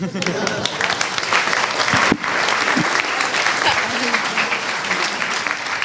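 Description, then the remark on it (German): Sustained audience applause for a group after its presentation, a dense, steady wash of many hands clapping for several seconds with even loudness throughout, a brief sharper burst in the middle. “Doppelten Applaus für.”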